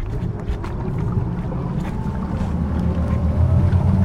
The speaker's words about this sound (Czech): Členové vodní záchranné služby Českého červeného kříže se díky několika člunům, které můžou jet až rychlostí 80 km v hodině, dokáží pohybovat prakticky po celém Lipně. K některým zásahům musí ujet i přes 10 km.